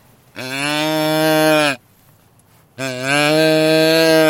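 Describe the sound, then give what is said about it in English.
A handheld deer grunt call, with its young-deer button pressed to imitate a fawn's bleat, sounds twice: two long, loud, nasal calls with a steady low pitch and rich overtones, separated by a second of quiet, with no talking. “That sounds like a fawn that's a baby deer looking for mommy, all right?”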